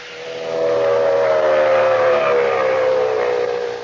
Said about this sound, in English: Fellows and girls, hear that sound? It's the terrific pulsating roar of a racing motor. It's the shriek of racing tires traveling at 100, 120, faster than 150 miles an hour.